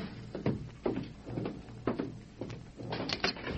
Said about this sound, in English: Someone's at the door. I'll answer.